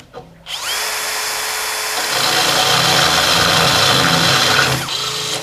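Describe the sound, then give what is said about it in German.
A power drill whirs loudly and steadily for about four seconds after a brief quiet start, its tone rising slightly under load before it winds down and stops near the end, while spraying is done at the same time. “Ich sprühe mal und gleichzeitig wird jetzt gebohrt.”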